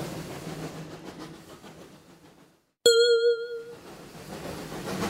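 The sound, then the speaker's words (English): A train rumbles and clatters steadily along the tracks, then briefly falls quiet before a loud, ringing bell-like ding sounds and the rolling clatter picks up again. “Stop the train, Goofy!”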